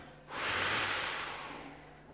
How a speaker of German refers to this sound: Und auf Kommando atmen wir alle tief ein. Ja? Okay. Und ausatmen erstmal.